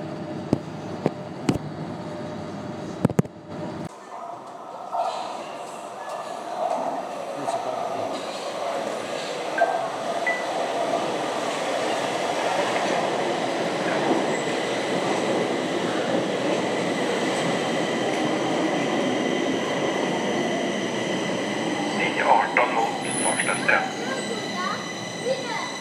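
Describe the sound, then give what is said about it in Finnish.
A ride on a Stockholm metro train. A few sharp clicks and knocks come first, then a steady, broad rumbling roar of the carriage that holds and swells slightly, with a faint high squeal near the end. “Ja nyt matkataan sitten tunnelpaalalla kohti Kulmansplania.”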